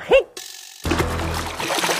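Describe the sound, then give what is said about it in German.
A brief vocal sound, a short pause, then a splash into a glass of water that turns into a steady fizzing, bubbling wash lasting about a second. “Dann spring mal in mein Wasserglas rein. Achtung, ich mache eine Arschbombe.”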